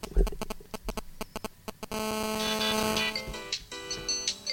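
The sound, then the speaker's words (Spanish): A series of quick, sharp clicks gives way to a Nokia 3330 mobile phone ringtone playing a bright, synthetic bossa nova melody, moderately loud, with no talking over it. “Este es mi politono cuando alguien me sale.”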